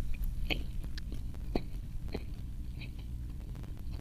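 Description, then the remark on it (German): Moist chewing of a juicy bite of bread flavoured with rum, lemon and candied orange peel, with soft irregular mouth clicks and smacks repeating every half second or so over a low background hum. “Das ist ein Brotsommelier-Kauen.”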